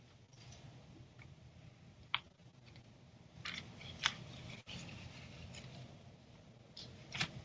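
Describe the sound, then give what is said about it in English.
Thin Bible pages being flipped while opening a Bible to 1 John chapter 4, with a few crisp, papery snaps and soft rustling between them, spaced irregularly over a low background hum. Fairly quiet, with no one talking. “Okay, let me open my Bible to that.”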